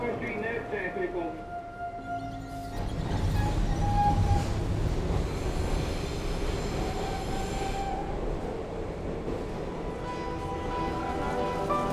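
A subway train headed to Chinatown rumbles steadily along the tracks, a loud, continuous roar that swells after a few seconds, with thin metallic wheel squeals whining over the clatter throughout.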